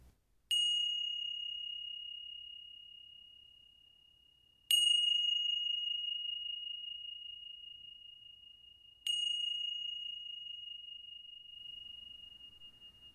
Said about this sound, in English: The sound of the bell, whether you are seated or lying down.